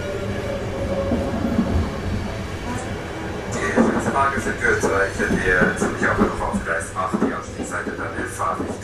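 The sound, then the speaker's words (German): A night train rumbles steadily into Zürich station, arriving at platform 8 shortly after 10. It makes a dense, continuous roar with metallic tones rising midway, while indistinct voices murmur in the background. “Ankunft in Zürich auf Gleis 8. Es ist kurz nach 10. Der Zug hat ungefähr eine Stunde Verspätung.”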